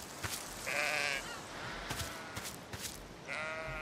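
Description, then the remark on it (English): A sheep bleats twice after being stepped on, loud, each call a wavering nasal cry, with scattered clicks and rustling in the gap between them. “Oh, he didn't like that. I think I stepped on him.”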